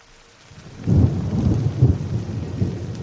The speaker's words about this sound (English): It's a cold, drizzly December morning on Larch Mountain, the highest freestanding peak in Clark County, Washington, which on clear days boasts stunning views of nearby Mount St. Helens.